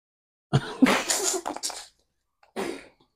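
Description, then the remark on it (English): A forceful sneeze bursts out with a wheezy lead-in, followed after a brief pause by a shorter, softer huff of breath. “Bless you”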